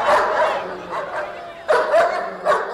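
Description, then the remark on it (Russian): Several dogs bark and yelp in quick, loud, overlapping bursts as men drive them out of a camp with sticks and stones, sharper yips breaking through the steady run of barking. “Тут все мужчины вскочили и стали гнать собак из стойбища палками и камнями, и глумились, и смеялись над ними.”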